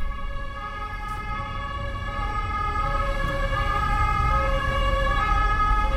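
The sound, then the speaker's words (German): A police siren wails steadily for several seconds, its bright tones holding high over a rumbling low background of traffic noise, with no voices, at a building site on the German–Swiss border. “Polizei und Blaulicht, das gehört auch dazu.”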